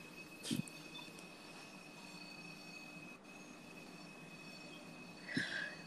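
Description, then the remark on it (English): A train rumbles steadily along the rails with a sustained high-pitched wheel squeal running throughout, punctuated by two louder metallic clanks near the start and end. No one speaks. “Bro, what is it switching its ass on? The fucking rails? God damn it. It's making so much fucking noise.”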